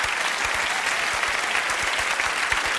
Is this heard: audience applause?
yes